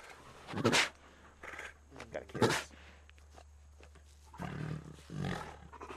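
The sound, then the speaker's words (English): A tiger named Gabriel makes a few rough, breathy vocal bursts mixed with wet rasping licks as it licks a person, coming in separate loud spurts with quieter gaps between them over a low steady hum. “Hear the sound of what it sounds like to get licked by a tiger.”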